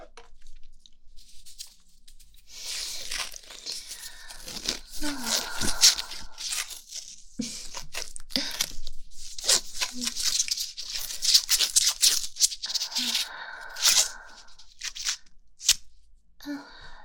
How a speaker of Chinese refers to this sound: 好了，才用了这么一丁点的胶带就缠得严严实实的